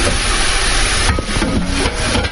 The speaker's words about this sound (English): So right now the steaks are on the grill and we're just, it's just zero in there. Check out the noise of the sizzling of the steaks on the grill. Yeah. And they're pretty good sized steaks. So we got our steaks from Sam's Club.